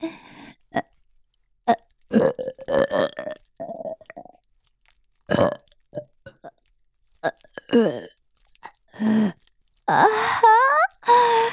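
A series of short burps and throaty vocal bursts with brief gaps between them, fairly loud, ending in a longer, wavering, groan-like eruption; a burp after drinking milk.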